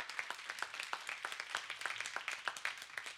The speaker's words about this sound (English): I always want to say, I'm glad you clap now to honor me. If you really like what I say, you'd clap later too.